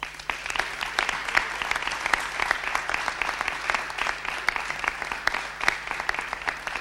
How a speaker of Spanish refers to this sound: seguido de aquellas personas que a veces no se ven, pero están mañana, tarde, noche y madrugada haciendo que esto sea posible y pido un aplauso para ello, que son los voluntarios de Protección Civil del Ayuntamiento de Cartagena.